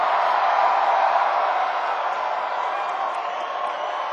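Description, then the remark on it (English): A large live crowd screams and cheers continuously, a dense, loud roar of many voices that holds steady throughout without letting up. “Come on, you gotta keep screaming. Come on, it's Saturday night.”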